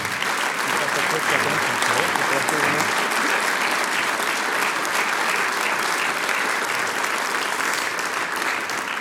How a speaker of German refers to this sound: Und die Gastgebergruppe, die Gruppe, die die Mitglieder nach der Haarfarbe auswählt. Applaus für Weststeirisch zusammengewürfelt.